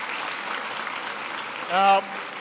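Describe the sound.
An audience of students at a school claps steadily in a dense, even wash of applause, with a single voice briefly whooping or calling out over it near the end.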